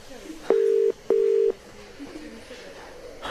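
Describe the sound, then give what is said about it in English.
Two short, steady electronic telephone keypad tones sound in quick succession as someone dials to make a phone call, each under half a second and identical in pitch, fairly loud against a quiet, faintly hissy background with no talking. “Just need to make a phone call.”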